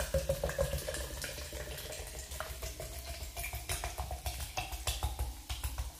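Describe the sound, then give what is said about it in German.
Mineral water is poured steadily into a glass for several seconds until it is full, with a continuous splashing rush and scattered crackling pops like carbonated bubbles fizzing. No one speaks. “So, jetzt auch mal einschenken.”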